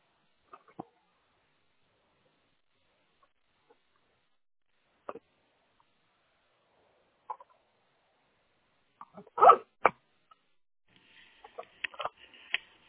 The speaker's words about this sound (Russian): Нет, провод распутываю.